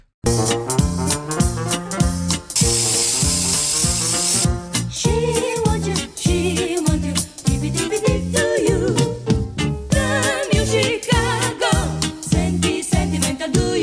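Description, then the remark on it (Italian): A show's loud, upbeat theme tune plays alone at the start of the programme, driven by a steady pulsing bass beat and bright layered synths, with a hissing noise sweep washing over it early on. “Manda la sigla e poi partiamo.”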